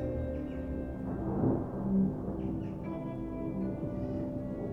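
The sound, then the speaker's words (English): Low, rolling rumble of thunder that swells briefly around the middle, then settles back into a steady murmur with faint tonal hum underneath; no one speaks. “It's thunder.”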